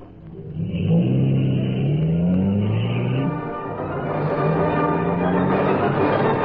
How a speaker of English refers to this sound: He's walking to that parked car. He's starting.